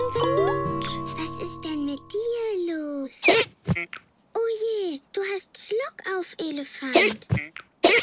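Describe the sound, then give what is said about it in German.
A chiming, tinkly jingle fades out, then an elephant hiccups in a series of loud, cartoonish voiced hiccups, about six or seven sharp yelps at irregular intervals, clear. “Der Elefant hat Schluck auf.”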